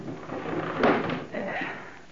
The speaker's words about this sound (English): I'll close the window.